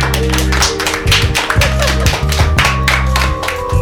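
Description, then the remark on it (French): An audience at an evening event in the rain claps in a steady, rhythmic patter of sharp slaps, with a low droning tone running underneath the applause throughout. “Est-ce qu'on peut entendre un peu le public là ? Le public !”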